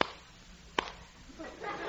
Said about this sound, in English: What's that? Two claps of thunder.